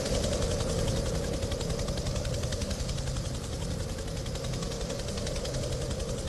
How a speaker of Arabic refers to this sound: فمروحية الإنقاذ العسكرية هذه تلتقط الركام عندما تتحطم طائرات السلاح الجوي، لكن كان لديها مهمة أخرى في هذه الرحلة، وهي إنقاذ مدني كان موجودا هناك خلال انهيار ثلجي.